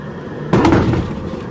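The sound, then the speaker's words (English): A steady Navy aircraft engine roar suddenly surges louder with a rough, clattering burst partway through, then stays loud and broad, the engine surging as the plane flies very low to land on the USS Ronald Reagan in the Sea of Japan, with no voices. “Okay, we are very low. You can hear the engine surging.”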